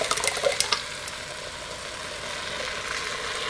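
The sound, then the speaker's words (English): Ingredients are poured into a hot pan to be fried, setting off a burst of crackling at first that settles into a steady sizzle. No one speaks. “Let's go ahead and pour this in.”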